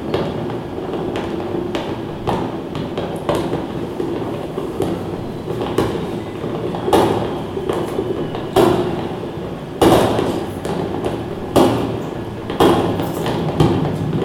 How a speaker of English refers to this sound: Sounds of work, but distant. Natural forces like wind and water, a squeaking tree very close. Many different scales are present in this soundscape.